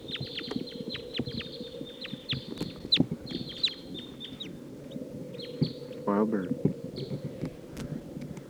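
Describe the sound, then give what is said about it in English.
Wild birds call repeatedly in quick, overlapping squawks and chirps across the whole stretch, some sharp, with a rumbling, busy background beneath them; the birds are taking off to the south and circling around. “Sounds like maybe more wild birds are coming. They are taking off.”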